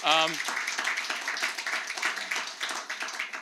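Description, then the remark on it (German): Sustained audience applause for the seniors, a dense crackle of many hands clapping at once and steady throughout, with a brief voice at the very start. “Geben wir mal einen kurzen Applaus an unsere Senioren.”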